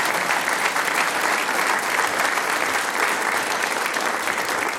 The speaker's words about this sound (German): Das ist ein Applaus. Dankeschön.